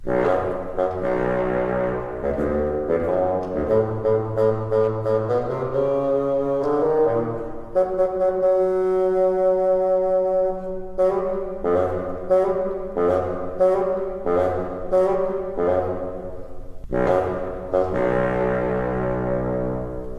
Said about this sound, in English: Peter's grandfather is represented by the bassoon. Can you hear his stern voice?